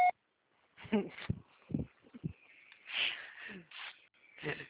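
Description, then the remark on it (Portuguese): A short, sharp voicemail beep sounds right at the start, then gives way to scattered breathy, rustling bursts and snort-like noises with no clear speech. “Deixe a sua mensagem na caixa postal.”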